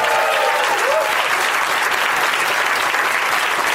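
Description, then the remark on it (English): An audience applauds a first-time guest panelist, a stand-up comedian: a dense wash of steady clapping that holds at an even loudness throughout, with a faint cheer or whistle rising briefly near the start. “Give it up for Grant Lyon, everybody.”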